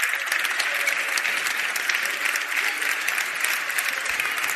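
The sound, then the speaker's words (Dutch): Steady, sustained applause from an audience for a group of men called up onto the stage in thanks for their work, a dense crackle of many hands clapping at once, holding at an even loud level throughout with no voices standing out. “Heren, nou aan het applaus te horen zijn wij onwijs dankbaar voor alles wat jullie hebben gedaan.”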